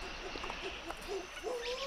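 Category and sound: animal, monkey call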